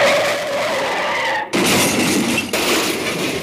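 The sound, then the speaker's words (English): A car skids with a sustained, screeching tire squeal, then after a split-second pause a loud crash of shattering glass and crunching metal follows, dense and noisy, with no voices. “There was no accident, by the way.”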